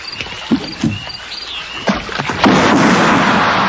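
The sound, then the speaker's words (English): A small boat moves through water at night, with repeated splashes and knocks like oars dipping, then a steady wash of rushing water building toward the end. Fairly loud, with no talking. “Is there someone in a boat out there?”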